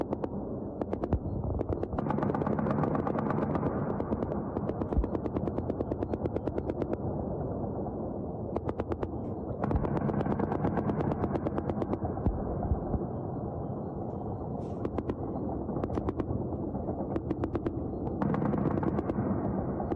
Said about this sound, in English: Here's a picture of, I believe, this one that's coming up is some Ukrainian aerial defense systems that are going after those drones.